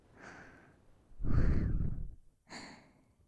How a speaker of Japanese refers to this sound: 聞こえてるかな、私の吐息。興奮が高まっているのに低く響いて。少し緊張もしている。